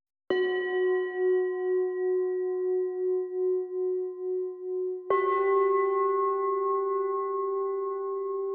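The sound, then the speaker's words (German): A singing bowl tucked into a music track, deliberately distorted and soaked in reverb, is struck twice, each strike ringing into a long, wavering metallic tone with a pulsing beat and a bright, gritty edge; no voices. “noch ein Instrument, was sich hier versteckt, das ist die Bowl”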